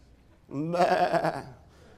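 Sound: sheep bleating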